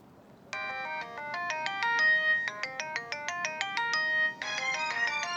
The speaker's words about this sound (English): You'd think that would be the end of the story, but just a few hours later, the priest's cell phone rang.